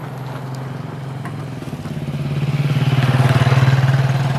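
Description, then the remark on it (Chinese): A motorcycle passes on a concrete road in a countryside village, its engine puttering steadily, a low throbbing growl swelling louder over the last couple of seconds as the bike approaches, with no talking. “在乡下我们比较喜欢骑摩托车和电动车，因为比较方便”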